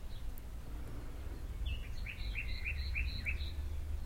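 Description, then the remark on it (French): A bird sings a short series of repeated chirping notes, about five or six in quick rhythm, in a garden, over a low rumble of outdoor background noise with no talking. “J'entends les oiseaux.”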